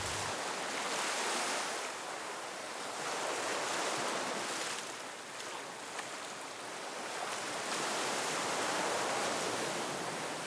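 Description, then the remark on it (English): Ocean surf washes steadily onto a beach, a broad hiss of breaking waves that swells and eases in slow cycles, with no voices present. “You hear the sounds of the waves.”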